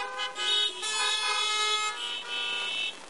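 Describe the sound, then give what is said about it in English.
Car horns honk in long, overlapping blasts for about three seconds, loud, with the pitch and intensity shifting slightly as the honking continues. No one speaks. “And if they came to a drive-in service, they would know when to honk.”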